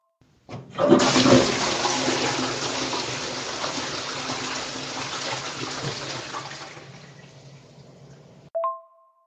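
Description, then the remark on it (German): A toilet flushes: a loud rushing surge of water starts abruptly and slowly tapers off over about eight seconds, then a brief tonal blip sounds at the end. No talking. “bei deiner langen Pause habe ich eigentlich darauf gewartet, dass gleich wieder die Klospülung kommt.”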